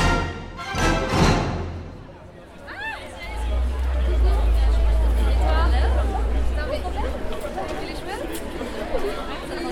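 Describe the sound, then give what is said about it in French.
A steady murmur of many overlapping voices, a dense mid-afternoon crowd chattering continuously around the speaker, with a low rumble underneath and brief louder bursts near the start. “Mais la foule autour de moi me donne l'impression d'être au milieu de minuit.”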